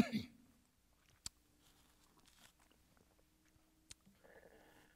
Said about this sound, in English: The bad thing about mics like this is that when you cough, it has that horrible reverberation. Forgive me.